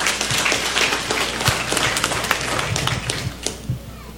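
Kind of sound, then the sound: crowd, round of applause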